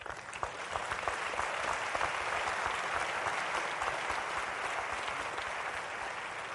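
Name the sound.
audience clapping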